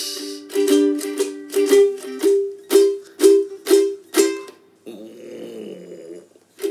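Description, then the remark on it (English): A loud stomach rumble from someone who ate too much: about eight rhythmic, growling pulses, each roughly half a second apart, then settling into a lower, bubbling gurgle. No one speaks. “No, I don't think it's thunder. Baby, I ate too much.”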